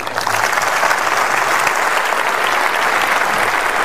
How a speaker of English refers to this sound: Well, not quite as long a round of applause as David Cameron got when he had a go at Jeremy Corbyn, but what do you make of that?